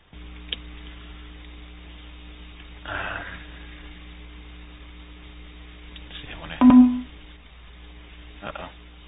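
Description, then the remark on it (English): A dog lets out a brief bark or whine somewhere in the background, heard once over a steady electrical hum with a few soft muffled bumps around it. “That's not my dog.”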